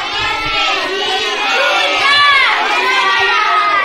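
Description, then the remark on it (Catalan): A crowd of children, pupils of Escola Montsant d'Ulldemolins performing a school play, shouting all at once, a loud, continuous jumble of high-pitched overlapping voices with excited calls rising and falling, steady throughout. “Ei, ei, pareu el carro, això sembla una olla de grills.”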